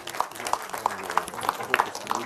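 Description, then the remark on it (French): Scattered audience applause, a steady patter of claps with a few sharper ones standing out at a moderate level, with no one speaking over it. “Je pense qu'il mérite qu'on l'applaudisse”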